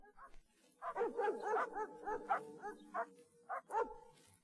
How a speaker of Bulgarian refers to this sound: Изкочиха псета, лавнаха насреща. Бабиното куче и то се обади и го връхлетяха.